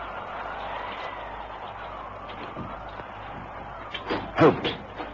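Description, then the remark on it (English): A door is pushed open near the end, giving a short creak and a soft knock after several seconds of quiet, hissy room tone with no one speaking. “I'm going to push this door open.”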